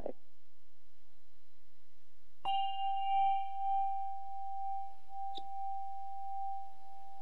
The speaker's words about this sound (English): Now that here comes the bell.